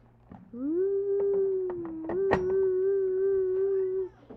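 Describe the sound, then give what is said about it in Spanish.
A voice imitates an ambulance siren: one long, steady, low wail that swoops up at the start and holds for about three and a half seconds, with faint clicks underneath. “Que va la ambulancia, ¿eh?”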